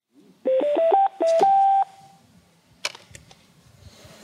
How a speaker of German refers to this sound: Wenn die Person nicht wieder aufsteht, geht eine Alarmkette los. Das System wählt nacheinander eine Liste von Telefonnummern, bis der Anruf angenommen wird. An erster Stelle könnte die Nummer des Nutzers selbst stehen.